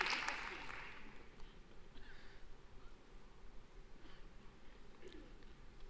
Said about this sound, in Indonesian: Ya, tepuk tangan dulu.